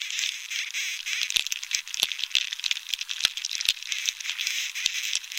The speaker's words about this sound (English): But without water, there's no sap, and soon the beetles are drilling and breeding and making more of a racket. Here's Dunn's recording of a moderately infested tree.